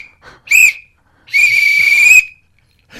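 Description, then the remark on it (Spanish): Loud referee whistle blasts given as the three final whistles to end an interview: a short sharp toot, then a long sustained blast, with the start of another just as it ends. No talking. “Si quieres que acabe la entrevista, cuando acabe yo doy los 3 silbatos finales.”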